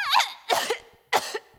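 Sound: cough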